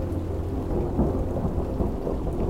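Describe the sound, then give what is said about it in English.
A low, distant thunder from an oncoming storm at almost 2 a.m. rumbles continuously, deep and steady, with a soft wash of rain-like noise over it and no voices. “Off in the distance, I heard a low, growling thunder.”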